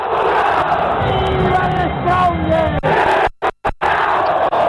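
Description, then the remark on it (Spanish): A crowd of Tigre football fans chants together in a loud, sustained roar of voices with a rhythmic, sung quality, broken by a few abrupt silent cuts near the end. “¿Cómo haces esa barra del Tigre?”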